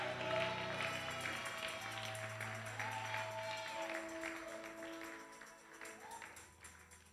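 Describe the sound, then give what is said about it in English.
A large crowd, asked for its loudest clap and biggest shout, claps and cheers loudly and continuously, a dense wash of applause and raised voices, with sustained keyboard notes playing underneath. “If I have witnesses here, you have been clapping, but I've never heard your loudest clap and your biggest shout. Let me have a little feel of it.”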